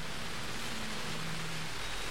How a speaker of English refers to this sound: It's dreich if it's cold. The rain's coming down, it's coming down at more of an angle. It's windy.